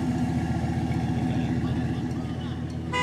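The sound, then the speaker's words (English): At a car show, an engine idles with a steady, low throbbing rumble that continues for the whole moment, while faint voices murmur in the background. “I'm at the Pavilions Car Show.”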